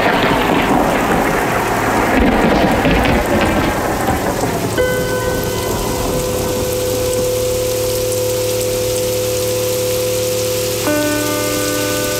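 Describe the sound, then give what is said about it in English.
Heavy rain hisses steadily throughout outside a hospital, with a deep rolling rumble of thunder and flickering lightning in the first few seconds; sustained tonal drones then enter and hold beneath the downpour. No voices. “Lightning flickers through the hospital window. At the door, an elderly woman stands waiting for the rain to clear.”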